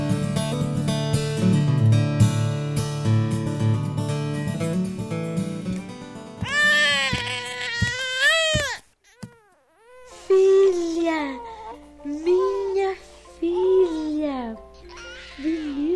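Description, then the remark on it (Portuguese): A baby girl cries in a short, wavering wail that rises and falls for a couple of seconds, coming in after soft music, with a brief pause before people start talking. “Mas vocês não querem conhecer o bebê?”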